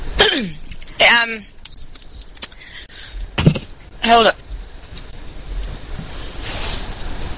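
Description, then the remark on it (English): Several sharp coughs break out in short bursts, a couple of them bunched together, with a brief spoken remark and a faint steady background hiss. “Sorry, had to cough.”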